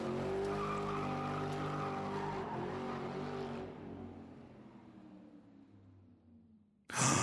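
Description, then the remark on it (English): A getaway car peels out at night with loud, sustained tire squealing and engine roar that fades over several seconds, followed by a sudden burst of noise at the end. “The sound of the getaway car peeling out echoes into the night.”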